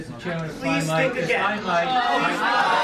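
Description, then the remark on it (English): A crowd bursts into loud, overlapping voices as a speaker cuts off a student's remark about his stained credentials, a dense jumble of shouting and talking that stays steady and busy throughout without any single voice standing out. “… jumps in, and the crowd erupts.”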